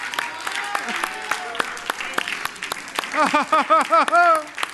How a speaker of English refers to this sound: Come on, let the redeemed of the Lord say so this morning. Come on, with a hand clap of praise, with the voice of thanksgiving.